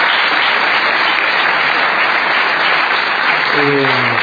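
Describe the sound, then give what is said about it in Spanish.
A crowd applauds comedian Pablo Fábregas steadily, a dense, even wash of clapping that holds at full strength throughout, with a voice starting to speak over it near the end. “Estamos hoy sí, con Pablo Fábregas, vamos a aplaudirlo en este mismo momento.”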